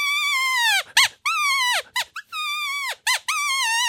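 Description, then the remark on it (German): A blatter, a wooden whistle with membranes, imitating a roe deer doe being chased by a buck gives a series of high, squeaky, whining peeps, some long and gently falling, others short and rapid, loud and alone without speech. “Also ich habe jetzt eine Ricke nachgeahmt, die eigentlich schon in Beschlag genommen wird von einem Bock, der schon sie bedrängt, der jagt sie schon.”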